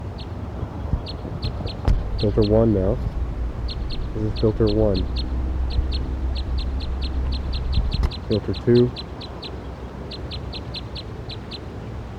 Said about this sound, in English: The bird's getting loud, very loud. Perched, just flew a little bit and perched up on top of the cage thing here.